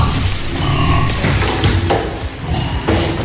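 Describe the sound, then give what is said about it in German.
Pigs grunt and squeal as one or two animals at a time are driven to slaughter, over a loud, continuous clatter of metal and machinery, with several short bursts of animal noise and no speech. “Hier werden immer 1 oder 2 Tiere zur Schlachtung getrieben.”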